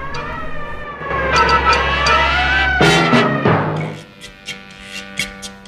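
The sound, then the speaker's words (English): A police car siren wails loudly for about three seconds, its pitch sweeping up and down. It then cuts off and gives way to a string of sharp, scattered knocks as a driver bashes on a liquor store's security grill. “The driver bashes on the security grill as he hears the police car siren.”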